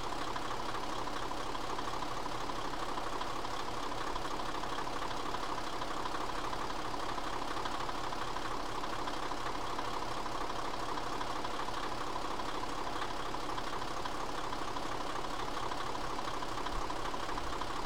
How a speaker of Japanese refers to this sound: それでは最後に今回の旅ボーナスステージで寄ったひたちなか海浜鉄道のキハ20の音です。もう由緒正しきエンジンの音を聞いてもらいたいと思います。どうぞ。